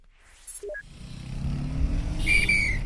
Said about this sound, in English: At the moment, we're riding on the back of a white Toyota pickup truck.